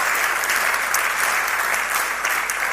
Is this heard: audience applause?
yes